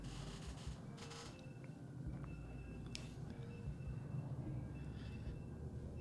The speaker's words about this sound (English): It's like squeaking in the background, but that's my dryer. The dryer is squeaky as fuck.